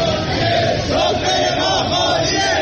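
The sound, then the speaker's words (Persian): Workers of the Shiraz vegetable oil company chant slogans together in protest over four months of unpaid wages, a loud, sustained roar of voices, rhythmic slogans rising and falling with no single voice standing out. “کارگران شرکت روغن نباتی شیراز هم در اعتراض به پرداخت نشدن 4 ماه دستمزد خود سفره خالی پهن کردند و شعار دادند.”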